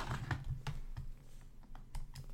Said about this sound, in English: Let me pull this up. Get to hear me click-clacking on the keys a little bit.